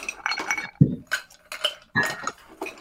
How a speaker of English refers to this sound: Yes. Let's ice put the first. Ice in the mixer first. So that we're not splashing all over our desks.